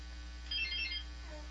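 A quiz buzzer sounds once during a quiz game, a short bright electronic tone lasting about half a second, clear over a quiet, steady background hum.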